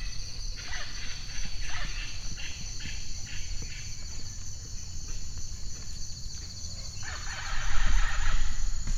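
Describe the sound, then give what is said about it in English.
An Amazon rainforest animal chorus, recorded for ecoacoustics study: a steady high insect drone underlies repeated bursts of harsh bird squawking, with a louder cluster of calls near the end and no voices. “It would be so relaxing if not for the squawking.”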